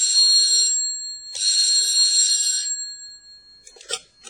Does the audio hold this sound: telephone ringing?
yes